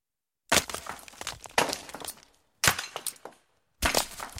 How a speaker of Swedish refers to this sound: Ljudet av sten som krossas och hackor som frenetiskt arbetar mot den hårda graniten ligger som en ljudkuliss över Deir el-Bahri.